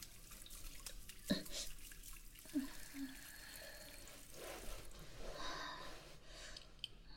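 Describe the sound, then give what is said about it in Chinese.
A tap runs steadily into a sink as green leafy vegetables are rinsed, the water hissing and splashing, broken by a few sharper knocks and splashes early on. No one speaks. “没事，好像那个水溅到眼睛里面了，泡一下。”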